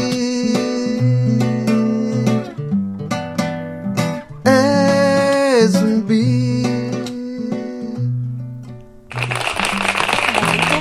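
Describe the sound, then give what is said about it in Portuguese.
A sustained, tonal musical performance plays for most of the stretch, then gives way to a burst of dense, crackling audience applause over the final couple of seconds. “Aplausos.”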